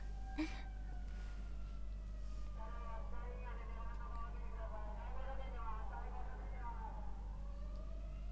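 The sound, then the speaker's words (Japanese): An ambulance siren wails, its rising and falling tones swelling and then fading as it passes, over a steady low electrical hum. “ちょっと救急車が。”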